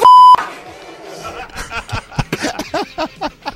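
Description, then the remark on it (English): A single loud, steady censor bleep lasting about a third of a second cuts in sharply over a swear word, followed by people snickering and chuckling in bursts. “Putting a beep in and everything.”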